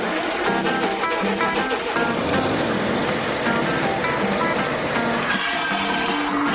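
A gasoline-powered cutting machine runs loud, a steady roaring engine with a whining, buzzing tone that holds without pause throughout, with no voices. It is cutting a piece that will become a rail.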